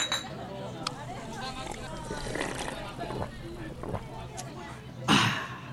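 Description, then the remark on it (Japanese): Glasses of Maker's Mark highball clink together in a toast, a bright, sharp knock near the end, rising over a background of people talking and murmuring. “はい、このメーカーズマークがないと飲み金は始まらないということ で、 ううことで、ね、 今日も乾杯したいと思います。 はい、じゃあ早速乾杯いきましょう。”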